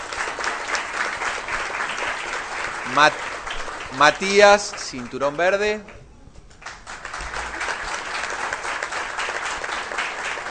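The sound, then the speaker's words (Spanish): An audience applauds yellow-tip students of a taekwondo school at their self-defence demonstration, in a dense, steady wash of clapping. Midway a voice speaks over it, the clapping briefly thins, then swells back up and continues to the end. “muy bien, un aplauso de punta amarilla.”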